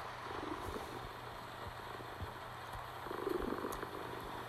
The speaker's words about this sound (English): Your purring is so soothing and adorable.